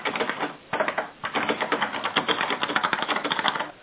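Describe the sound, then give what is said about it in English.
Rapid, forceful keyboard typing with dense clacking keystrokes, fairly loud, pausing briefly twice before continuing in a steady rhythm; someone typing on a call without being muted. “Someone's typing violently and is not on mute.”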